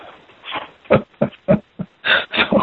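A dog barks in the background in a quick, irregular run of about seven short, gruff barks, the last few louder and rougher, with no one talking over them.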